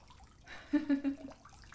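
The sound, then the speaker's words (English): Splashing of bathwater, a short flurry of three or four quick sloshes that swell and fade within about a second, over a quiet, watery background. “Wait, don't splash me. Hey, it's okay. It's just home. You're in the bath.”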